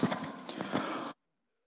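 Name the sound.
person clearing their throat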